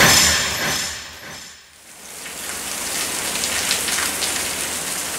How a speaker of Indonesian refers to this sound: Sore itu hujan cukup deras.